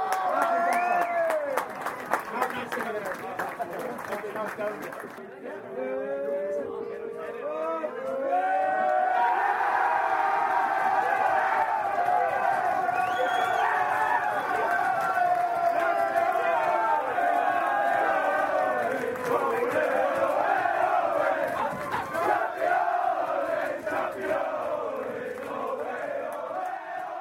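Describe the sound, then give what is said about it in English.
A large crowd in Port Arlington cheers and applauds steadily for nearly half a minute as the captain of Enniscorthy Rugby Club comes forward to accept his medal and the Provincial Towns Cup, a dense roar of voices and clapping that swells after a brief dip and stays loud throughout. “Brilliant day, huge crowd.”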